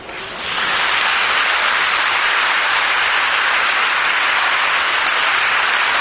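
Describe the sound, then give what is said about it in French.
A crowd bursts into applause, swelling within the first half-second into a loud, dense, steady wash of many hands clapping that holds unbroken to the end, with no voices heard. “Maintenant, vous pouvez applaudir.”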